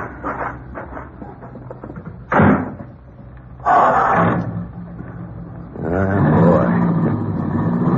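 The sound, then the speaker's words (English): A car door thuds shut, a rush of noise follows, and then the engine of a new car settles into a steady, smooth humming drone that carries on as the vehicle drives. “Sure is smooth. I'm going to get me a new car soon. Ah, sure does hum, don't you?”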